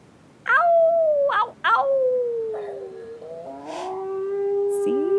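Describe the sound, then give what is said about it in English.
Lancelot, Mrs. Castro's beagle, howls at night in long, wavering notes. It starts with a few sharp yelping onsets, then slides into a drawn-out, falling howl that overlaps with a second howling voice toward the end. “That's Mrs. Castro's beagle.”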